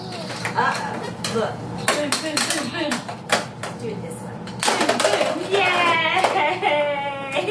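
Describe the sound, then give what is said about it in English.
A toy hammer pounds repeatedly in an irregular series of sharp knocks, with voices and a brief squeaky, sing-song sound near the end. “Oh, and you want the hammer? There it is, hammer.”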